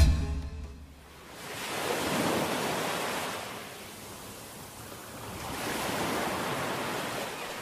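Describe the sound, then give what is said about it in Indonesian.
Broad, rushing sea noise swells and recedes in slow surges, like waves rolling on the open sea around Batam, Riau Islands, Indonesia, where the Suku Laut sea people live, steady with no voices. “Seperti inilah suku Laut Batam, menjalani kehidupan di atas laut yang luas dan terbuka.”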